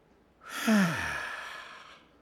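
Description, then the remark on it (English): A slow, breathy exhale through the mouth, clear, beginning with a faint voiced sigh and trailing off gently over about a second and a half. “And slowly breathing out through your mouth.”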